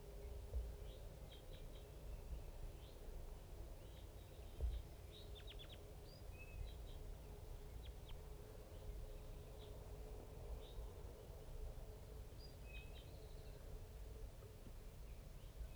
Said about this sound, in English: There's about 5 crossbills and a little flock of big guys just around here somewhere.